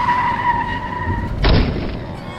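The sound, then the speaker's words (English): A car skids to avoid a chicken truck with a loud, sustained tire screech lasting over a second, then breaks into a sudden rough burst of noise as it slides to a halt, with no talking. “Susan, watch out for the chicken truck.”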